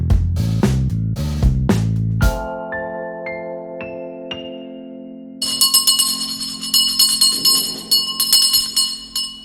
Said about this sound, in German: Was hat diese Glocke eigentlich zu bedeuten? Können Sie mir das erklären? Ja, und zwar ist die Glocke dafür da, alle aufzurütteln, wenn das Essen dann auch wirklich fertig ist.